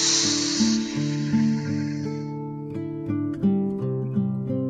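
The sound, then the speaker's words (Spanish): A long, steady breathy blow as someone takes a deep breath and blows to inflate a balloon, lasting a couple of seconds over soft background music that continues alone afterward. “Una vez más, respiramos profundamente y empezamos a inflar nuestro globo.”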